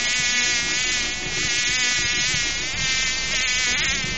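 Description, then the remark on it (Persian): A fly buzzes steadily and loudly, its whining drone wavering slightly in pitch over a few seconds, with no voices present. “بسیار خوب مگس جان.”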